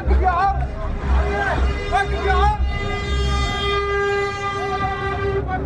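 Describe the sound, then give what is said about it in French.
Heavy trucks loaded with humanitarian aid arrive and rumble past with a deep, loud engine roar, a horn blaring steadily through the second half while an excited crowd of hundreds of waiting men shouts underneath. “Les premiers camions chargés d'aide humanitaire arrivent.”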